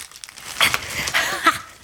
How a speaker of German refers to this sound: Und jetzt ganz vorsichtig die Zeitung zurückziehen.